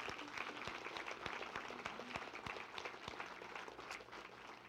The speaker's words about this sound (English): If you are part of the blessed people, would you give Jesus a clap? Come on.